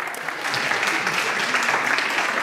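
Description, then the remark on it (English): A room full of people applauding, a steady dense patter of many hands clapping at once, fairly loud and sustained with no voices standing out. “You can clap now. Everyone can clap now?”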